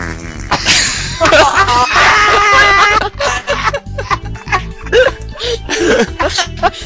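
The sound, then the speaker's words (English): A person makes a loud, wet, juicy, sputtering mouth-fart noise, a long buzzy raspberry, followed by shorter bursts that trail into snickering laughter. “Dude, I just like drooled all over my desk from like doing a wet, juicy like fart sound.”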